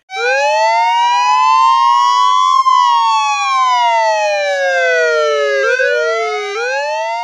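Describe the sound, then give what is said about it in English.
Loud police sirens from two police cars arriving at a cemetery wail continuously, their pitch sweeping up and down, with a second siren overlapping partway through so the tones cross each other. No one speaks. “The boys watch two police cars arrive at the cemetery.”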